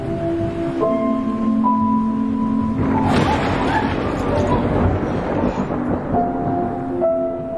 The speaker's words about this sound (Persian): مردم از رعد و برق میترسن، ولی عجیبه که از نظر من آرامش بخشه.